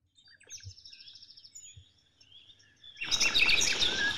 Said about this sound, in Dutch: Ik kom in een gebied dat zo klinkt. Vogels, ganzen, alles wat je maar kan horen.